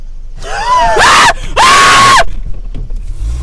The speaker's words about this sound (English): screamed, she should be on Scream Queen